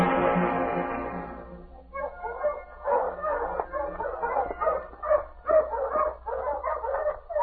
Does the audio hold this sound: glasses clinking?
no